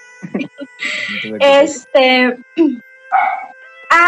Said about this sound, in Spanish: ¡Ah! Lo siento, es que está pitando un carro y empezó a ladrar Racing.